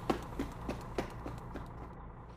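Quick running footsteps into a shop, about seven sharp thuds in a steady rhythm, moderately loud over a low background hum, with no one talking.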